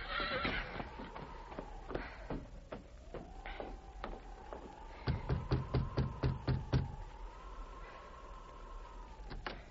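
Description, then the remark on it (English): The horse Victor whinnies in a long wavering neigh while hooves clip-clop as its rider reins up at the back door of Mother Willard's rooming house in Frontier Town, the steps turning into a quick, loud run of about nine sharp clops before trailing off. “He reined up at the back door of Mother Willard's rooming house.”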